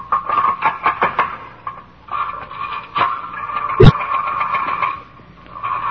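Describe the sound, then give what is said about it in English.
A rotary telephone dial is turned with both hands and released, with a quick run of mechanical clicks followed by a steady whirring as it spins back, then a sharp click near the end. “And who would think I would have to use both hands to dial the telephone?”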